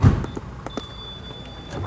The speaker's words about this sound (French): Je pousse la porte d'entrée et j'arrive devant la porte du cabinet.